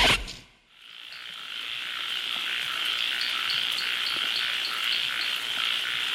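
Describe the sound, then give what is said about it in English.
A dense night chorus of crickets and frogs trills and chirps continuously, a steady high-pitched shimmer with rhythmic pulses running throughout, fairly loud and without any voices. “I love sounds at night, the voices of the crickets and frogs singing together.”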